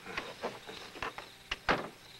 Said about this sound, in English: He closes the door behind her, glancing through a pane, then thoughtfully crinkles his brow.